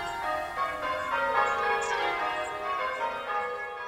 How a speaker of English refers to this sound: All Britten's walks were within the sound shadow of the bells of Aldborough Parish Church. which is the churchyard, in fact, where Britain is laid to rest.